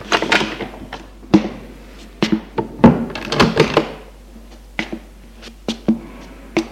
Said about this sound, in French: La porte s'ouvre.